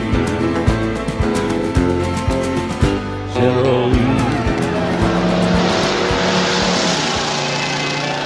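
A loud musical Hazzard car horn blares a tune of several sustained notes that step up and down in pitch, mixed with roaring engine and screeching tire noise throughout.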